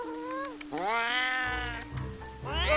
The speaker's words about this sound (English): Oh, it's just a cat. It seems to have a collar. It's probably lost. Perhaps there's an address on its tag. Oh, not to worry, Miss Muffy. I'm very good with cats. Sometimes I think they believe I'm one of them. Here, little kitty. Don't be afraid.